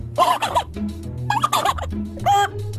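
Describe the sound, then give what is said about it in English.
A person imitates a turkey's gobble, making three quick warbling, throaty bursts in a row, loud, with short pauses between them and no other talking. “How about some birds? Well, let's see. Turkey?”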